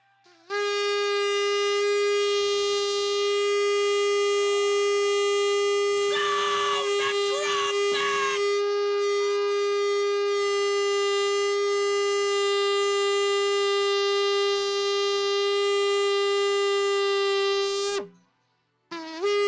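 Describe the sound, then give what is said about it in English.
A shofar is blown as an alarm: one long, loud, unbroken blast lasting nearly twenty seconds. The steady, brassy tone holds its pitch throughout, with a brief burst of voices or crowd noise partway through. “Tell the Lord, you call me, you summon me, reach for the shofar and sound an alarm.”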